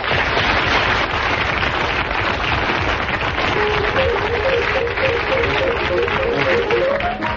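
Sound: studio audience applause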